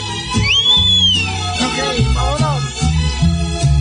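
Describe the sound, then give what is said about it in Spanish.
A short human whistle sweeps up and then slowly glides down in pitch, heard over loud ongoing music with a steady bass and chords. “Dame un silbidito.”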